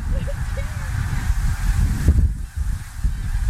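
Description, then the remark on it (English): A flock of snow geese honks faintly, a few short calls rising over a heavy, steady rumble of wind buffeting the microphone outdoors. “Oh, look, there's geese!”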